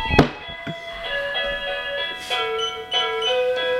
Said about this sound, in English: Oh, Lord have mercy. The podcast gets to hear the doorbell.